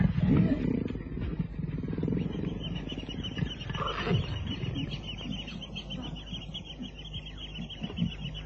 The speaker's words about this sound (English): It was just getting light as we crept along the path. But it was not a lion that was taking the bait. It was a leopard.